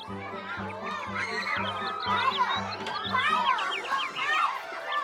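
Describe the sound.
Children shouting and playing in the distance: a busy tangle of high, lively voices calling over one another nonstop, with a low, regular pulsing tone beneath for most of it.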